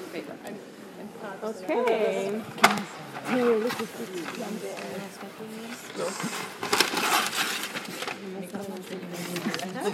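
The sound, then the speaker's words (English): Paper from a roll rustles and crinkles in uneven bursts, growing louder toward the end, while a person talks over the handling. “I brought a whole roll of paper. Now it's here. Paper.”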